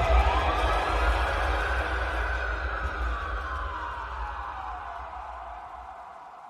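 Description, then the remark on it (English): A siren wails steadily in the distance, its pitch sliding slowly downward over several seconds, with a low rumble underneath as the sound gradually fades. “I curled up and lay still as my dad screamed and sirens wailed in the distance.”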